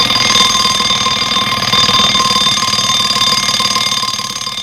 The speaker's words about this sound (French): Demain matin, le réveil sonne à 7h.